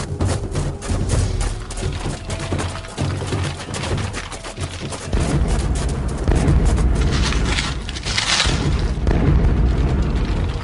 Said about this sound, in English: Those are sonic booms. They're getting close.